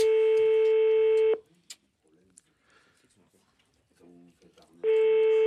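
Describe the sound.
A telephone ringback tone as a call is placed, a loud, steady buzzing ring that lasts over a second, falls silent while a faint voice murmurs, then sounds again at the end.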